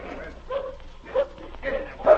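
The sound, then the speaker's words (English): A fierce dog, the most savage dog of a team of dogs, barks aggressively, letting out about four harsh barks at an uneven pace, moderately loud, with a low background rumble. “That's the most savage dog in your team.”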